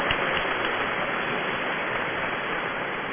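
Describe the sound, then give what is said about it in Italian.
Steady applause from an audience welcoming students of the Liceo Scientifico Mascheroni in Bergamo, a dense, even wash of many hands clapping at constant loudness for a few seconds with no voices. “E allora salutiamo con un applauso alcuni allievi del Liceo Scientifico Mascheroni di Bergamo che ci aiuteranno in questa mattinata.”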